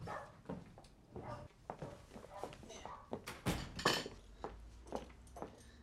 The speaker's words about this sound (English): Michael smiles and clears away the dishes into the kitchen.